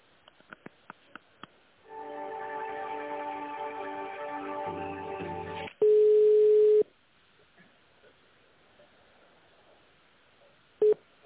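A phone line transferring a call to a company's tender department: a few quick clicks, a sustained buzzing multi-tone signal, then a loud steady beep and, after a pause, one short beep. No one speaks.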